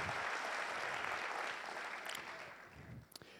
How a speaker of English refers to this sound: Can we please give another round of applause